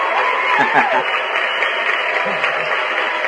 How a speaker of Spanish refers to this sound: Ahora se aplaude.